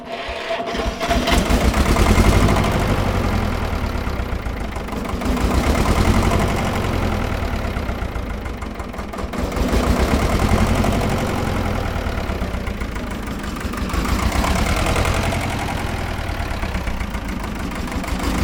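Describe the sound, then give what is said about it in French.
A small Someka 25D tractor with a water-cooled two-cylinder Fiat engine, built 1960 to 1963, catches after long preheating and settles into a rough, knocking idle, its revs surging and sagging in slow waves every few seconds as it regulates poorly. No one speaks. “Petit tracteur qui se régule très mal. Il passe du temps à se réguler.”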